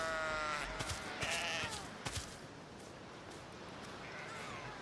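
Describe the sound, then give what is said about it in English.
A sheep bleats loudly, a wavering harmonic call at the start followed by a few shorter bleats, over steady outdoor background noise with no talking. “Where are you, sheep? Oh, there's a sheep.”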